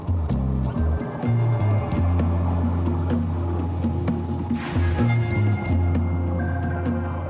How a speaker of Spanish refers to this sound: Los exploradores submarinos lanzan el robot millonario llamado VOR, o vehículo operado remotamente. La máquina se propulsa cientos de metros por debajo de la superficie.